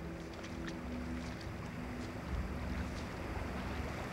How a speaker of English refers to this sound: Sounds like the water is rushing into an opening ahead.